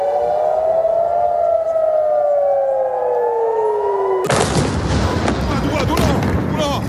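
A wailing air raid siren from the war of the United States and Israel against Iran slowly falls and rises in pitch for about four seconds, then is abruptly replaced by loud, dense rumbling blasts and crackling explosions of bombing.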